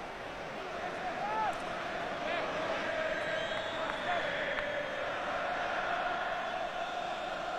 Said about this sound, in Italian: sente qualche coro da parte dei tifosi della Roma, però ovviamente il tono è molto minore rispetto a una quindicina di minuti fa, anzi poco più, visto che il gol è arrivato al quarto d'ora.